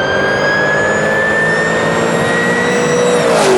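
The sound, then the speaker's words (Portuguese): A rally car is put in first gear and accelerated at full throttle, its engine revving hard and loud, the rising harmonic whine climbing steadily, with no voices over it. “Metemos a primeira e aceleramos a fundo.”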